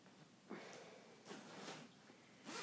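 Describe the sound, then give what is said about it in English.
Several short, raspy zipper pulls as someone zips up a sweater, fairly quiet, arriving in uneven bursts with brief pauses between them and no talking. “I'm gonna zip up my sweater.”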